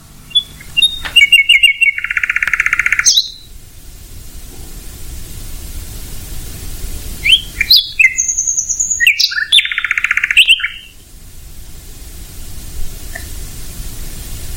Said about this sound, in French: De jour, son chant est masqué en partie par les autres chanteurs, merles, grives, pinsons, etc. Et donc, on le remarque moins, alors que la nuit, on peut admirer ce soliste virtuose.